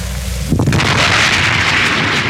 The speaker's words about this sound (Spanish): Y al estrellarse, se produce una explosión. Un destello luminoso, como bola de fuego que se hunde en el mar.